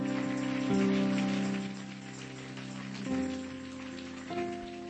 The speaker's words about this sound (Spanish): Eso es. Otro aplauso al Señor. Eso es. Eso es. Fuerte el aplauso. Fuerte.